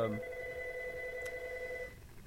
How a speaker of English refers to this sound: Oh, your phone's ringing.